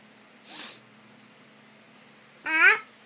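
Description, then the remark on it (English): Two sharp bursts of air forced out through the nose, the first a breathy hiss, the second a louder snort with a rough, fluttering edge, separated by about two seconds of quiet. “You want me to blow out the pizza? Yeah. Blow it out my nose?”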